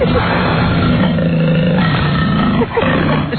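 A deep, rumbling growl of a person's stomach rolls on steadily, low and loud with a rough, gritty texture, briefly dipping before surging again, heard by a doctor through a stethoscope.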